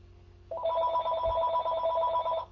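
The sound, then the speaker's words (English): A phone rings with a bright, trilling electronic tone, steady and fairly loud for about two seconds, with a faint low rumble underneath and no one speaking. “And when something is conjured up, whoops, here's my phone.”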